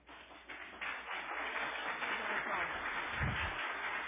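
A crowd breaks into applause that swells within the first half second, then holds as a steady, dense wash of clapping to the end, with no voices standing out.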